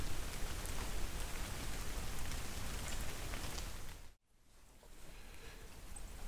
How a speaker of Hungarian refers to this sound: Előző megszólalásom óta elerett az eső, és onnan talán egy olyan másfél-két kilométert jöhettünk, amikor az úton jobbra meglátunk egy esőházat.